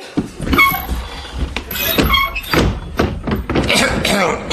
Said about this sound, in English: That door, you need a bit of WD-40 on that.